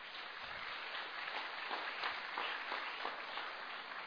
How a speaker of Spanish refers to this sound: Vamos a darle un aplauso a estas personas.